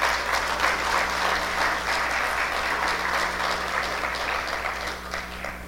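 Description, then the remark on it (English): A crowd claps steadily in a sustained round of applause for everybody who helped with a cleanup, lasting several seconds, a dense even patter of many hands that fades slightly near the end, with a low steady hum underneath. “So if you guys could just give another round of applause for everybody who helped.”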